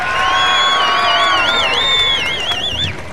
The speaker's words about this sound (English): Loud cheering from the crowd.